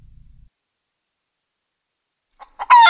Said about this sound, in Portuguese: Certo casal comprou uma galinha. Aparentemente, uma galinha como outra qualquer. Bico, penas, pés e aquele olhar bobo de galinha.